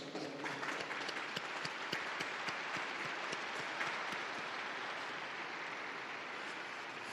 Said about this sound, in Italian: Un applauso alla nuova beata.